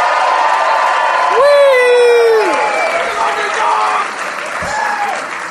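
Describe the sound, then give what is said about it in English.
A theater crowd at the Gramercy Theater in New York City claps steadily as a man in the front row lets out a loud, sustained scream lasting about a second, followed by fainter shouts and whoops in the applause. “I was a very aggressive man in the front row. It's the scary kind of love when it screamed at you, "We love you!”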